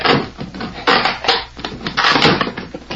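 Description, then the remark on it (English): A wooden box is pried open with a hammer: loud, irregular bursts of creaking, splintering wood and scraping, rising and falling in several strained pulls, with no voices. “Here, pry the box open.”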